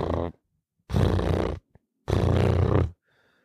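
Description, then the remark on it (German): A person imitates a cat purring, making loud, raspy rumbling bursts in a steady rhythm, each under a second long and separated by short pauses. “Das waren ungefähr 10 Sekunden Katzenschnurren. Ja. Für alle, die es nicht können, ich mach's gerne nochmal nach.”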